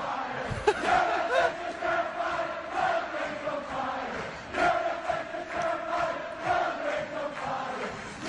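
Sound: football stadium crowd chanting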